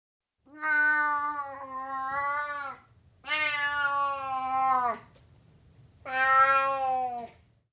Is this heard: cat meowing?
yes